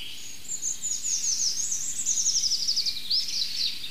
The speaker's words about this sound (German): Ach, schön zartes Rotkehlchen im Hintergrund.